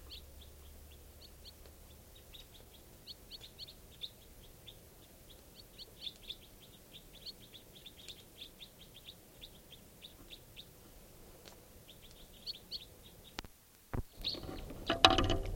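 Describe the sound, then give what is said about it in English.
A flock of white-winged crossbills gives rapid, high chattering chips and trills almost continuously, a busy scatter of small calls over a low background rumble, ending with a brief burst of noise. “Crossbill here, sounds like a white wing.”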